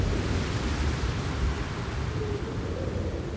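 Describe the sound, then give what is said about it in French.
A violent whirlwind storm roars steadily, a dense rushing wall of wind with a deep low rumble underneath, loud, holding constant for a few seconds without any voices. “Aussitôt, un tourbillon violent l'aspire.”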